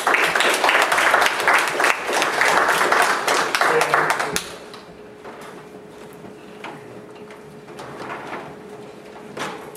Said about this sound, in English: Give a little hand of applause.